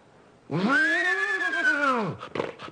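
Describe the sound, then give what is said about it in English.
A person's voice imitates a horse whinny, as done for the horses in the Buck Benny Rides Again westerns: one long, strained, nasal cry that rises and then slides down, followed by a few short breathy snorts. “So he would do the horses. So first do just the horse, the Winnie.”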